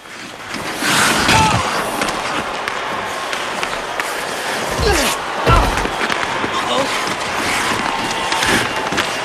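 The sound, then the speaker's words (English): Ice hockey players crash into each other, slamming opponents hard at every opportunity, with a few heavy, booming slams and thuds set against constant roaring arena noise and indistinct voices. “The Polar Bears play dirty and hard, slamming the Nuggets at every opportunity.”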